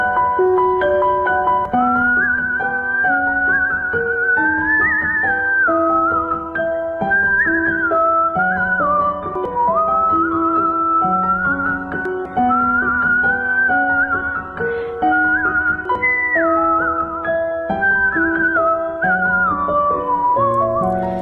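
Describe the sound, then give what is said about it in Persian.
A clear, sustained whistled melody glides and wavers above a steady instrumental accompaniment, played continuously at moderate loudness with no talking; a whistling performance by a musician who plays violin, kamancheh and whistle. “نوازنده ویولون، کمانچه و سوت”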